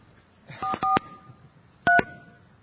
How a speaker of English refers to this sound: All right, let's do it. I'll do my part. I'll dial the phone.